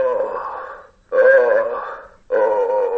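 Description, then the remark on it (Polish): Three drawn-out, groaning moans from a medical training manikin at a university simulation centre, each lasting about a second with short gaps between, loud, with no other talking. “Fantom nawet wydaje jęki.”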